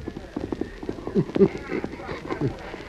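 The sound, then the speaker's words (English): The Lone Ranger's horse Silver gallops hard to the cutoff, its hooves pounding in a quick, steady clip-clop rhythm of dull, thudding beats that carry on for a few seconds. “The Lone Ranger rode hard to the cutoff, but from here, tracking was slow and difficult.”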